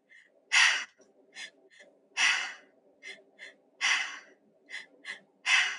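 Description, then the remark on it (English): Loud breathing exercise: four strong, rushing breaths in at a steady rhythm, filling the belly so the stomach pops out and then the chest, each followed by shorter, softer puffs of air out the mouth. There is no talking. “You're actually breathing in so your stomach pops out, and then you breathe into okay. Your chest, and then you're out your mouth.”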